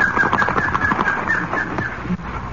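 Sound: bird calling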